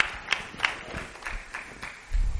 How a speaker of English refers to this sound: I heard like 2.5 claps. I think I heard somebody clapping like this.